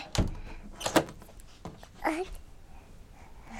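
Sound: door being opened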